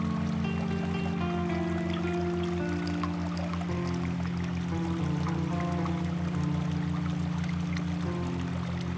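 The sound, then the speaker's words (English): Water flows and pours continuously at a moderate level, with a steady low humming drone running underneath the whole time and no voices. “As you listen to the water, what does she say in return?”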